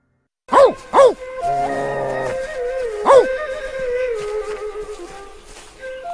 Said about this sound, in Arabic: إياك أن تمس هذا الكلب الطيب، إنه آية من آيات الله، لقد نام معهم طوال الفترة التي ناموها.